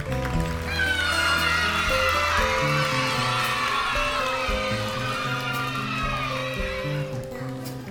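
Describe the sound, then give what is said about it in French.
A live concert audience applauds and cheers continuously, a dense wash of clapping with whoops and shouts rising through it, steady and loud for the whole stretch before tapering slightly at the end. “Il y a une nette progression de l'applaudimètre.”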